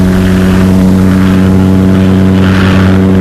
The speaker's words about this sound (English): You're seeing one of the first helicopters. Up it goes, and we mean straight up. Monoplanes of this type were responsible for many famous flying records. Chamberlain, Amelia Earhart, Wiley Post, and others flew ships similar to this one.